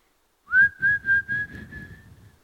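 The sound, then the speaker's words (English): A person whistles one long, steady, level note, the kind used to call someone over, held for about a second and a half above a soft, pulsing low rumble that fades. “He passes over unless you open the door and whistle for him to come.”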